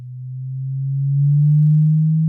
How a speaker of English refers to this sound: You're listening to the sound of a Fermi gas cooled down to a billion times colder than interstellar space. And at these very low temperatures, these atoms behave according to quantum rules.